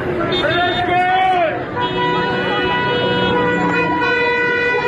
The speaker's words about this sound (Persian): اعتراضشون مردم با بوق دارن نشون میدن.